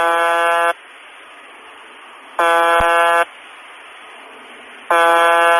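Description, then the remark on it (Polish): The shortwave radio station UVB-76, called the Buzzer, sends a harsh, monotonous buzzing tone rich in harmonics in short bursts about every two seconds, repeated roughly 25 times a minute around the clock, with noisy shortwave radio hiss filling the gaps between buzzes. “Zwykle nadaje ona krótki, monotonny sygnał brzęczenia, powtarzany w przybliżeniu 25 razy na minutę przez 24 godziny na dobę.”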